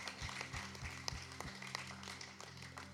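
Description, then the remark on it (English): An audience claps steadily in a dense, continuous patter, fairly soft, with a low hum underneath and no voices: a last round of applause for a pastor's message. “one last round of applause for that brilliant message, that wisdom.”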